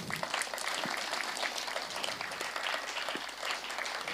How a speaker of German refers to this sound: Nummer 1, Applaus bitte.